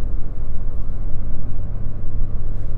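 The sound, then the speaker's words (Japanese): Loud, steady low rumble of a car travelling fast on a highway, with road and engine noise droning continuously throughout and no voices. “このスピードはちょっとその車速いんじゃない、なんか会社の車っぽいな。”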